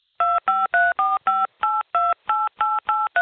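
A rapid run of eleven telephone keypad beeps as a phone number is keyed into an automated phone line to arrange a callback, each short dual-tone press clear and evenly spaced with brief gaps, loud with no talking.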